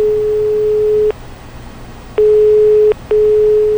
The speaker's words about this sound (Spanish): se decidió y marcó el número de la casa de Manu